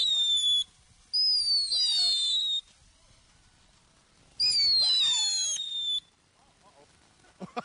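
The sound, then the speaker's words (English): A killer bee firework shrieks in loud, high whistling bursts, each sliding slightly downward in pitch and lasting over a second, with short quiet gaps between them. “All right, this is a killer bee now.”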